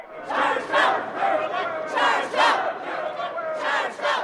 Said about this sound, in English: They had workers with signs cheering, saying, you know, 40 miles per gallon, we're electric. You can hear them right here.